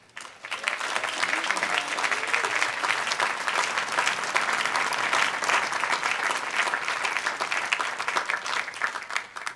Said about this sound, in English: I hope the move-in process went well, and I'd like for you to join us in giving a warm round of applause to the more than 700 orientation volunteers.